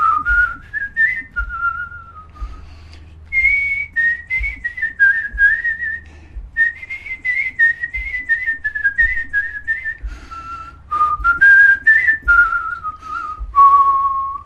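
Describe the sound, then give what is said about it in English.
A clear whistled folk melody, the song Far Away in Australia, carries on for the whole stretch, the pitch gliding smoothly between sustained notes with no voices, over a soft low rhythmic thump. “Not alone did the singer, but the whistle of the air as well.”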